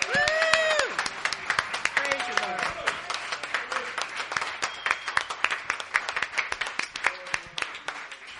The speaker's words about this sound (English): Praise you, Lord. Give the Lord a cheer.